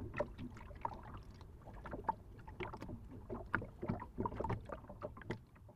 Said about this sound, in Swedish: En vacker fiskebåt och så kluckar vattnet mot skrovet.